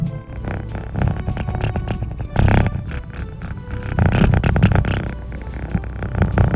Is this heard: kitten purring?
yes